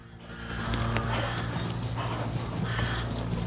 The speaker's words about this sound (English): In a field, Beric and his team stop their horses and gaze towards a dense wood in front of them.